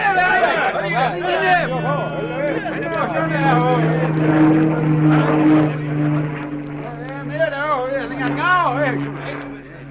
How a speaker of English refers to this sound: It must have been the plane. They stopped to look at it as it went over and changed their direction when they moved off again.